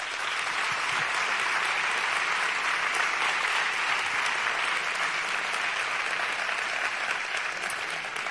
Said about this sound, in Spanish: Con este vídeo, además de reconocer al Grupo Roca de la Guardia Civil de Jaén, también hemos querido reconocer a la Guardia Civil, al Cuerpo, porque cumple 175 años y yo les pediría un fuerte aplauso para ellos.